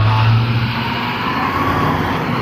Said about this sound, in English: Remember the FedEx truck I was talking about?